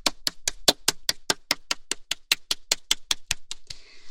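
A group claps together in a quick, steady rhythm, around eighteen sharp, crisp claps in a row, ending with a brief soft hiss. No one speaks.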